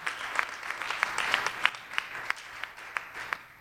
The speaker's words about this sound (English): Why don't you give her a hand clap?